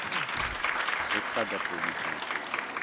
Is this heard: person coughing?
no